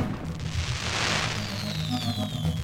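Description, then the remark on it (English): A deep, booming blast from explosives set off by a couple at a gender reveal party in a southern New Hampshire town rolls out with a heavy low rumble and a sustained roar of noise, while faint whistling tones drift downward in the background. “Turns out that blast came from an over-the-top gender reveal party.”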